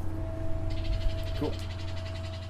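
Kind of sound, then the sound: bird, birds singing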